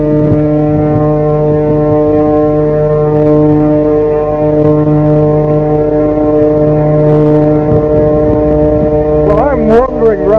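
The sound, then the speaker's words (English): A ship's horn hoots in one long, loud, sustained low blast that drones steadily throughout as the ship goes round the bows of the boat, with faint crowd noise and a brief voice rising near the end. “Can you hear her hooting in the background there?”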